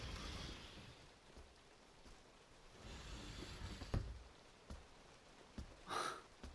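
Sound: steady rain falling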